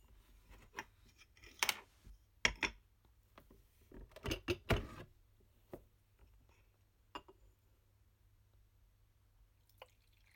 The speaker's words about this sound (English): Okay, folks. Time to pour my tea. Hopefully not over my phone.